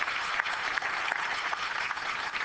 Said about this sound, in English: Are you a visitor in the balcony? If so, will you stand? Okay, well, let's give our visitors a nice round of applause.